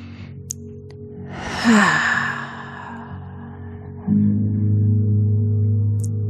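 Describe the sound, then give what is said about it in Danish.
One last deep, full breath is drawn in and let out slowly in a long, airy exhale, with a low steady drone humming underneath and swelling louder afterward. “Sidste fulde vejrtrækning her.”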